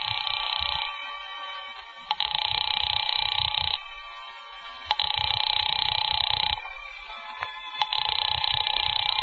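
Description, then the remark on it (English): A house telephone line rings through to apartment 2E over and over with no one picking up: three long buzzing rings separated by brief pauses, loud, with no voices. “There's no answer. Shall I keep ringing, sir?”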